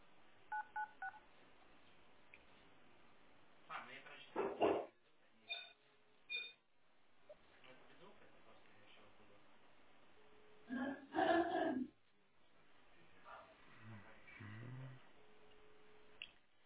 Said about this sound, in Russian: Так, ну вот звонок идет, но у вас не звонит, да, телефон получается?